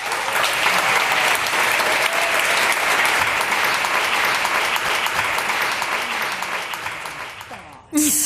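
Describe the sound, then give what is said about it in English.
A crowd applauds steadily for several seconds for the evening's speakers, author Jessica Bennett of Feminist Fight Club and moderator Peggy Orenstein, a dense, loud wash of clapping that tapers off at the end before a brief burst of another sound cuts in. “Give them a big round of applause, please.”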